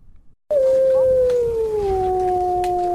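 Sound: wolf howling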